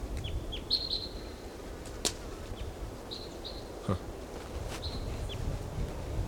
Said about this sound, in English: Okay, there's another bird, maybe the same bird, but we don't know, singing in the top of this tree.